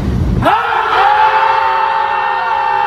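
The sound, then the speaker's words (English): A group of people at a lakefront on a Sunday evening let out a loud, sustained scream together after a countdown to ease the week's tension, starting abruptly and holding the cry steadily for a few seconds outdoors. “Yep, there's screamers at the lakefront.”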